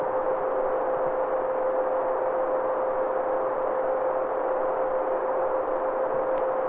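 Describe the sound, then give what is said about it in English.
A steady mechanical whine from a pump and chiller: one constant mid-pitched tone riding on a dense, even rush of machinery noise, unchanging throughout with no voices. “The pump and chiller whine.”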